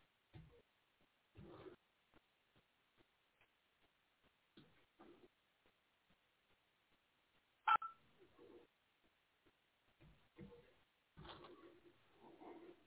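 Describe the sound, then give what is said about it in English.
Someone dials a phone number to call a person: a steady run of short telephone keypad tones, evenly spaced beeps sounding over a thin phone line, with brief muffled voices before and after. “I'm dialing him, yeah.”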